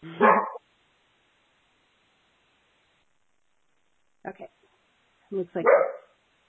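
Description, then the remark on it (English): A dog barks at someone at the door, probably a delivery, in a few short bursts separated by long quiet gaps, moderately loud, while a person briefly speaks. “I'm going to text my husband and tell him he better take care of the dog.”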